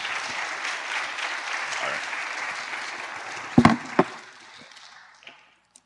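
A crowd applauds in a steady, dense patter of many hands for several seconds, with a couple of sharp, louder bursts near the end before the clapping trails off into quiet.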